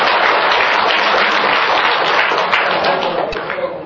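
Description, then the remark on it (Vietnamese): A round of applause from the women's side of an audience, many hands clapping densely and steadily at a loud level for several seconds, tapering slightly at the end. “Nhưng mà bên nữ phải trả lại cho người ta một tràng vỗ tay.”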